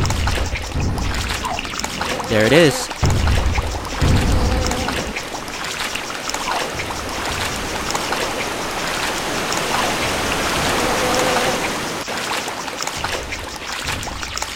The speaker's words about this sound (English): So I'm gonna walk forward a bit and we should find our waterfall.